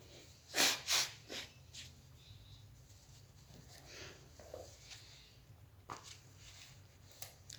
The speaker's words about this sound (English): Blow my nose, excuse me.